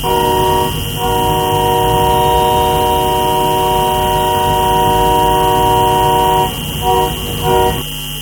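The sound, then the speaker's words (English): Horns of trucks, tractors and pickup trucks in a convoy protest against mandatory COVID vaccines for cross-border truckers, rolling into downtown Toronto on a Friday afternoon, blare in a loud, long, steady chord that runs almost unbroken, then break into a few short honks near the end over a low engine rumble. No one speaks. “Dozens of tractors and pickup trucks roll into Toronto's downtown on Friday afternoon.”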